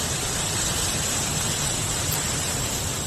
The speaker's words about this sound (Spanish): Así sonaba el River Esma a los pies de la Sierra de Guadarrama.